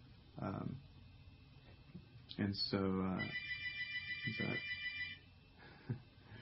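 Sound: telephone ringing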